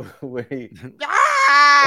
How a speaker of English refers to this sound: That's that … scream